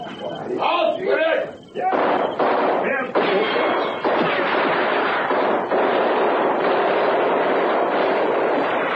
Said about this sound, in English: And then we realized the guns were not being fired in our direction. About 300 meters away, a skirmish was being fought